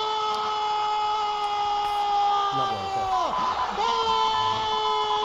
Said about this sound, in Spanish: Y cómo gritaba el Camp Nou. Impresionante, mira, es que otra vez gallina de piel.